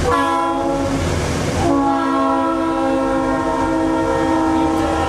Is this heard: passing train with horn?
yes